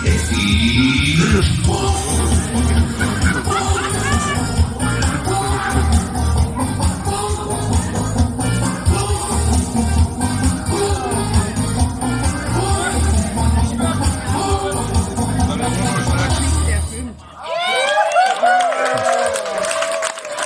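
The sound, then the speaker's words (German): A busy crowd in a beer garden chatters and calls out while a solo entertainer performs over amplified sound. The lively, continuous din stays loud throughout, briefly dropping near the end. “man hört im Hintergrund diesen, ich glaube, es war ein Alleinunterhalt”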